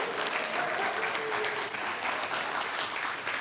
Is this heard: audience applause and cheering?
yes